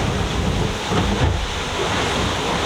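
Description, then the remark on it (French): Rough, violent sea and wind roar steadily aboard a boat in wet but not cold weather, a dense, continuous wash of noise with low rumbling and gusty swells, loud, with no voices. “Je sais pas si on entend l'ambiance du bord, mais c'est vraiment assez dur.”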